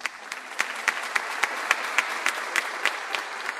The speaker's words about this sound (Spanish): Bueno, por lo menos aplauden.